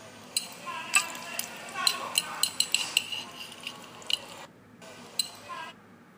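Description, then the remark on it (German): Breakfast sounds at the seaside: moist chewing and biting mixed with a series of light, irregular clinks of cutlery against dishes, fairly quiet, with a brief pause near the end. “Um danach ein leckeres Frühstück einzunehmen.”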